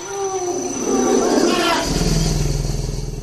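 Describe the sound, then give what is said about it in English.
A family of elephants drinking together at a marsh in the Central African Republic, recorded by Bernie Krause: wavering tonal calls and breathy, splashy noise give way to a steady, throbbing low rumble that pulses rapidly and fairly loudly to the end. “This is what it sounds like when a family of elephants drinks together from a marsh in the Central African Republic.”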